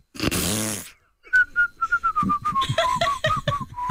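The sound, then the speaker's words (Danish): A brief burst of noisy sound gives way to a person whistling a quick, lilting tune, the notes gliding and bouncing in a steady rhythm, fairly loud. “Men det er også fordi, det var både fløjt og den der sang.”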